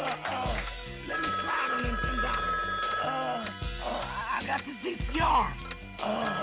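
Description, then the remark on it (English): A telephone rings with a steady, high electronic tone that holds for a couple of seconds, while voices and other muffled, tinny sounds carry on around it. “Answer the phone.”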